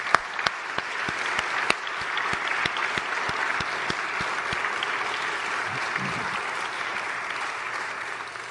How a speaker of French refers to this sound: Donc, je vais vous demander simplement d'applaudir ces deux personnes.